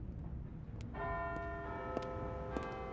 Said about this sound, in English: She made the short walk back, crossing the bridge and taking a right at the clock tower. Big Ben struck the hour.